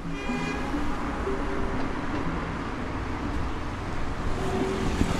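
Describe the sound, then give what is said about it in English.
A steady, dense rumble of street traffic on a Sunday evening in London fills the scene, with engine hum and passing vehicles blending into a continuous wash of noise at constant loudness, no voices. “By Sunday evening, the traffic's back.”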